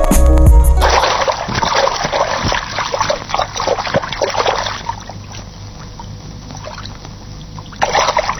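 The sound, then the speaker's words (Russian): River water splashes and churns, a busy rushing wash of sloshing with scattered sharper splats, easing to a softer flowing trickle before a brief louder surge at the end. “Я в реке, пускай река сама несет меня, решил ежик, как мог глубоко вздохнул, и его понесло вниз по течению.”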